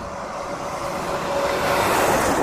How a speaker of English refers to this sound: Here comes another truck. And then here comes another truck. Big diesel dump trucks.